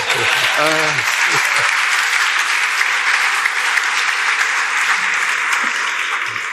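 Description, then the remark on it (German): A crowd claps steadily in a dense, sustained wash of applause, with a brief voiced sound at the start and a few faint shouts mixed into the noise. “Nochmals Applaus bitte.”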